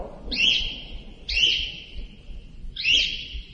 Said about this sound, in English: Bird is having a nervous breakdown.